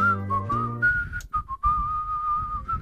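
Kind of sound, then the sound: human body sound, person whistling a tune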